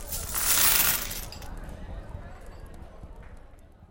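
A burst of coins tossed across a hard tabletop to cement bets, bright for about a second, then a few scattered clinks and rattles fading out as they settle.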